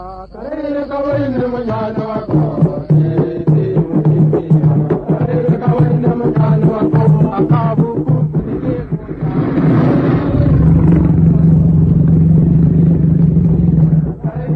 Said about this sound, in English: It was worried by the drums and shouts of the natives and coolies.